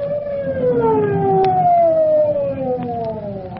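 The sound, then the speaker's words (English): The siren of fire Chief Cody's fast car as it pulls up at an alarm box: a loud wailing siren sweeps slowly in pitch, rising and then gliding downward in a long continuous tone, with a low rumbling engine underneath. “As Red feels for the first time the awful results of his carelessness, Chief Cody's fast car pulls up at the alarm box where Sandy waits to direct the fireman.”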